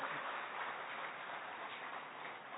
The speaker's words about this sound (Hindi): और इस स्वागत को आप जोरदार तालियों के साथ इस हॉल को गुंजायमान कर दें।